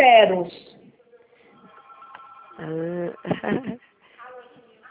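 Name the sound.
telephone ringing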